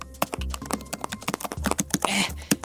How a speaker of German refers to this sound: nicht so fest. Ich brauche die Tastatur nur für die Arbeit.